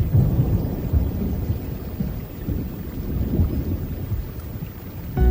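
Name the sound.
rain and thunder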